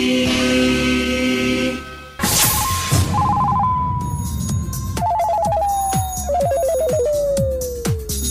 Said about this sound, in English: The phone is ringing.